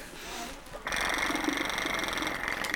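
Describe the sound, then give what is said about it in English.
After a brief quieter moment, a child blows into a flutter airway clearance device, a little pipe with a steel ball that jiggles things loose in the lungs, making a steady rattling buzz that vibrates rapidly and continues loudly to the end. “So she does what's called a flutter, where she blows on a little pipe that has a steel ball and it jiggles the things loose, and then she coughs them up, and she has to do that 4 times a day.”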